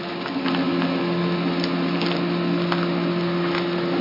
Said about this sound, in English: It doesn't sound like a chainsaw. Maybe a weed whacker out there. Hedge clipper. There he is. Okay. He's right outside the window.